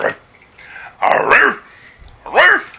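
A dog gives three drawn-out, yowling barks, a short one and then two longer ones with pauses in between. No one talks over them.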